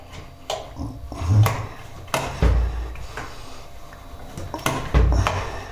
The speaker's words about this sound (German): So, dann schließe ich meinen Wasserkocher an.